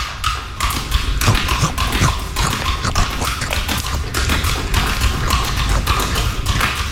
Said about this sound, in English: He took 198 bites out of 3 apples while juggling for 1 minute.